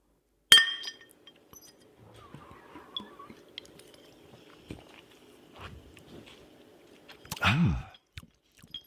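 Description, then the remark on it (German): Glasses clink together in a toast, a sharp bright chime at the start, followed by quiet handling and sipping noises, then a louder clink and clatter near the end. No one speaks. “Ja, dann Prost, ne? Ja, Prost.”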